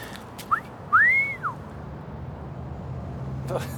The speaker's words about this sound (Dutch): Zie ik dat nou goed? Jij hebt het achterloos over de dood van je moeder en dan fluit je vervolgens een of andere troela na die ons voorbij loopt.